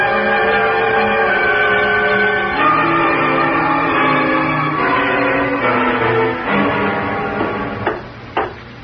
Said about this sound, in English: I rang the bell, no one answered.